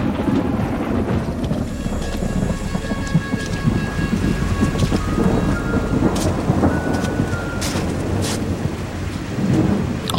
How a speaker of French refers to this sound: Décembre, la pluie s'abat sur Londres.